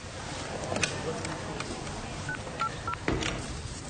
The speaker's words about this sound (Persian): خانم مدیر گوشی تلفنو برمی‌داره و شماره میگیره.